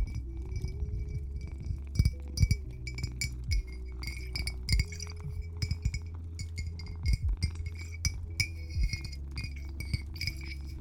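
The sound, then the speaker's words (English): A water bottle clinks repeatedly in irregular bursts of bright, glassy taps, with a soft liquid slosh and a low steady hum underneath; no one speaks. “But please, Master, don't drink from the water bottle. It's not good for your health. But it does make some good noises.”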